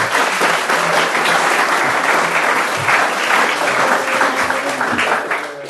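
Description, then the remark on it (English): Sustained, loud audience applause for several seconds, a dense wash of many hands clapping at once, steady throughout with a slight tail-off at the end. “Ladies and gentlemen, the SGU, George, a round of applause, if you will.”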